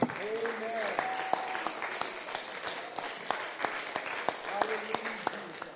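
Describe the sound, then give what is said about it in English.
An audience applauds steadily as they take their seats after a prayer, many hands clapping in a dense, sustained patter with sharp individual claps standing out, while scattered voices call out underneath. “Let us give an applause as you are seated.”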